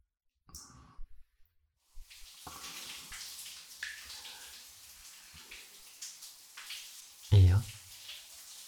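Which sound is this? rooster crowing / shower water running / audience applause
shower water running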